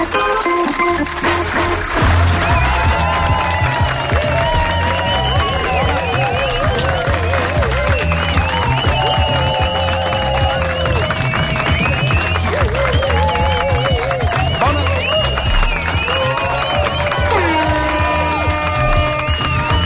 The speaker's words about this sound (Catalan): Has tallat l'aplaudiment, Toni. Aquest aplaudiment! Bona tarda, gràcies per venir, gràcies per acompanyar-nos d'aquests aplaudiments que han sortit espontànies.